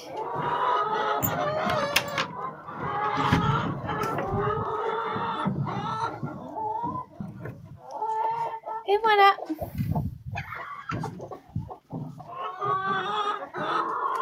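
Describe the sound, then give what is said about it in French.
A flock of hens by their henhouse clucks and chatters almost continuously, with overlapping, rising and falling calls of varied pitch. A man briefly speaks amid the hens. “Il faudrait que je nettoie le poulailler aujourd'hui ou demain.”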